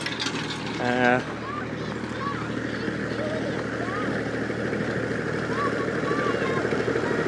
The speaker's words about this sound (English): Our tractor and farmer has arrived, so he's now going over us.